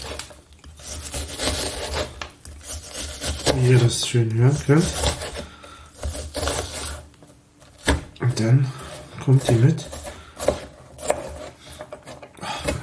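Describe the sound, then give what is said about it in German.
A knife dices an onion into small cubes on a cutting board, with rapid, crisp chops repeating while a person talks over the cutting. “Ich schneide mein Zwiebelchen in kleine Würfelchen.”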